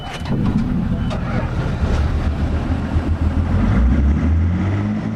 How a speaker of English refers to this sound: I'm on a boat from Wrangell heading out to the Wave Venture.